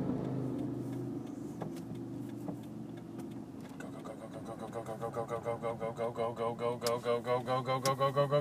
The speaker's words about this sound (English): Why are there cars coming this way? There are normally never cars coming this way. Alright. Oh. There are more cars than I thought.